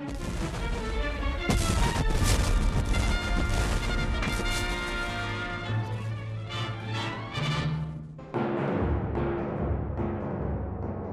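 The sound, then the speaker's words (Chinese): Loud cannon fire booms repeatedly, mixed with heavy crashing impacts of shells striking an iron hull, dense over a sustained dramatic musical backdrop, with no voices; the ironclads Virginia and Monitor firing at each other at close range on 9 March 1862. “两艘战舰里面的水兵被噪声、热气和烟雾困扰，他们发射的火炮声音巨大，敌军火炮爆炸声更加是震耳欲聋，有些人耳膜被震破，至少有一个人被击中船身爆炸的炮弹震到不省人事。”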